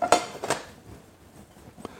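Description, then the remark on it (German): A metal frying pan, preheating, clanks twice against a stovetop in quick succession, fairly loud, followed by quiet and one softer knock near the end. No one speaks. “Pfanne heizt vor.”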